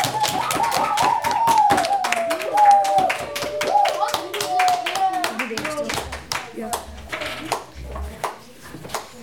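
A small group claps in a quick, uneven patter that thins out toward the end, while a high, wavering cheer or whoop rides over the first half.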